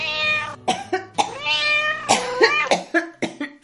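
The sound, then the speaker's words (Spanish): A cat meows repeatedly and loudly, a string of drawn-out, wavering cries broken by short yowls and sharp breaths, with no one talking. “¿Cuántas veces te voy a decir que te deshagas de ese horrible gato?”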